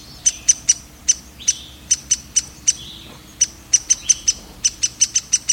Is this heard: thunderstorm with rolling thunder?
no